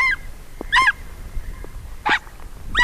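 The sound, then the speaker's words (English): Ethiopian wolf yelping in the Bale Mountains of Ethiopia: four short, high, harsh yelps in an uneven rhythm, each a reedy, honk-like cry, fairly loud over a low background rumble, with no talking. “In addition to yelping at public radio reporters who venture too close to its den, the Ethiopian wolf is a creature of the day instead of the night”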